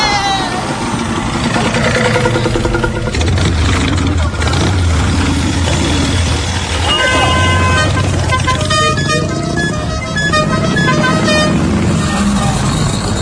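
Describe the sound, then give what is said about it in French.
A motorcycle rides through dense, noisy traffic in Bamako, heading to the international conference centre, its engine droning steadily while car horns honk repeatedly around it and voices talk in the background. “Non, moi je vais sur ma moto.”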